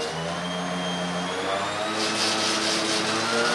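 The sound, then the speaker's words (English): A steady, loud mechanical whine with a constant hum beneath it from an alternator being tested on a machine that simulates heat and engine pressures, growing slightly rougher and noisier partway through; no voices. “He attaches it to a machine that simulates heat and engine pressures.”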